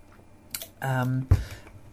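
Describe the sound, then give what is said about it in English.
A quick sip of water with a brief slurp, then a satisfied voiced 'ahh' and a soft clunk as the glass is set down, fairly quiet. “I just wanted to talk about the something else which was new to my brief this year, and I'm just going to take a sip of water because I can feel my throat getting a little bit dry.”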